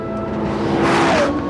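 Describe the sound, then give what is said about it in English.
A 5.7-litre V10 sports car engine, originally designed for racing and now fitted in a road car, roars with a steady growl climbing in pitch as it revs harder partway through, loud and continuous with no voices. “It's a 5.7 litre V10. Originally designed for racing, but now it's in a road car and the effect is absolutely...”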